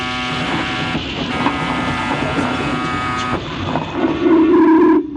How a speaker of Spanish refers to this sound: La puerta eléctrica se corre, terminando con todos los ruidos.